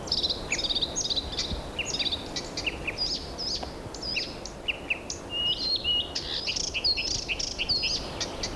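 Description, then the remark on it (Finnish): A Blyth's reed warbler sings at night a continuous stream of varied, mimicking phrases and high whistled notes, clear above a steady hiss of background noise, with no talking. “Se aika jännittävä on, että viitakerttusen laulussa kaikki nämä aiheet ovat matkintoja.”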